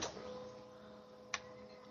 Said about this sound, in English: A printer.